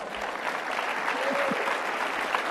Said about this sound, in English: Polite applause.